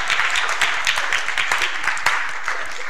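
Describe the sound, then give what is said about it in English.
A church audience, standing, claps steadily, many hands producing a dense, continuous patter of sharp bright slaps with occasional louder accents, sustained throughout without a clear shared rhythm. “Stand up. Be excited. Let's go. Clap.”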